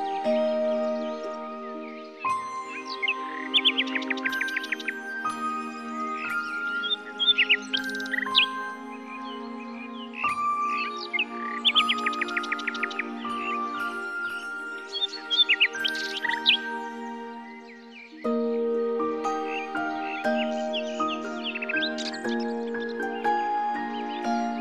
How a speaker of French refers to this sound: Le chant du rossignol.